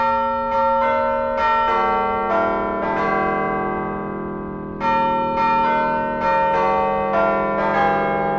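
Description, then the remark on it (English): The 15-bell Altgeld tower chimes ring out a melody, struck notes following each other at a steady pace with rich, lingering overtones. Midway, one tone hangs and fades before the tune resumes, loud and clear with no voices. “They raised enough money to install 13 bells, and how an administrator found additional money to add two more bells so the chimes would have all the notes needed to play the school song, Illinois Loyalty.”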